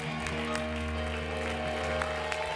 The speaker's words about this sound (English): Come on, if you love the Lord, give him a hand clap.